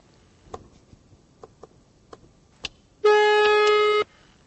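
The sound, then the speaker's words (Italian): A handful of sharp, evenly spaced clicks of phone keys being pressed to call someone back, followed by a loud, steady electronic tone lasting about a second. No one speaks. “Si è fatto aspettare un sacco di tempo prima di rispondere e poi se ne va senza dire va richiamato subito e io lo richiamo.”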